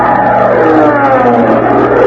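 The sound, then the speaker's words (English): A loud, steady buzzing drone of many bees in a room, like a swarm, holds without a break for about two seconds, with a dense hum of overlapping tones and no voices. “That was bee 29.”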